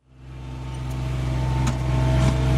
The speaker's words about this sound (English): The only person allowed on the field at Cape Town Stadium these days is the one riding the lawnmower, giving the vibrant green grass a careful trim.